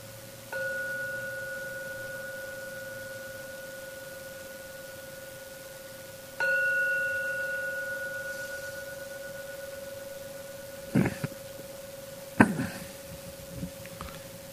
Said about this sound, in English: I will now ring the gong 3 times to end the meditation session. Please don't open your eyes until the 3rd ringing of the gong fades away.